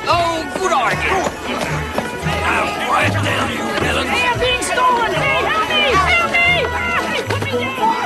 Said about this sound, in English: people bustle through a market. Chestnuts are roasting and a horse-drawn carriage rides through the streets.